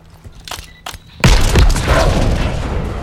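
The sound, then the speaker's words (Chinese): After about a second of near quiet with a few faint clicks, a C4 charge detonates in a sudden, loud blast, followed by a sustained, heavy roaring rumble that carries on to the end. “因為你咪要炸呢個。 係咯。 呢個係 C4。”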